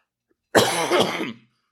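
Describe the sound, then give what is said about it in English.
A preacher coughs once during a sermon, a loud, rough burst lasting under a second, followed by silence. “Excuse my coughing.”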